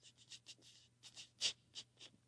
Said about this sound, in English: Well, during the Christmas time, our daughter was sitting in the recliner, and she was in there in the front room alone, and she heard this paper rattling.